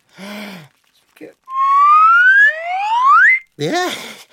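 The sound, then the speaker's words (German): A Karma whistle is blown in one long, loud tone that slides steadily upward in pitch, a second rising note overlapping at the end, with brief voices just before and after. “Ja, die Ameisen eilen zu mir, wenn ich in die Pfeife blase.”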